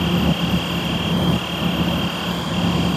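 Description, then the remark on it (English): A steady, loud aircraft engine drone at Leipzig-Halle airport in eastern Germany, with a constant high whine over a rumbling low hum and no voices. “At the Leipzig-Halle airport in eastern Germany sits a Ukrainian plane on the tarmac, emblazoned with the message, "Be brave like Kherson."”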